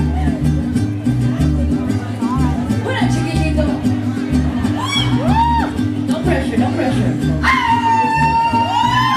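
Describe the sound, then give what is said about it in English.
Over loud, thumping music at a birthday celebration, a man lets out a Mexican grito for the audience: a few short rising yelps, then a long, high, sustained cry near the end. “You know what, before we do that, yes, I know we were teaching everybody about the gritos, but I've heard them from the audience and we have to show them what a man's grito is right here.”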